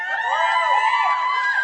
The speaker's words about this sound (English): Yeah, very nice, very nice. That was Velocity cheer.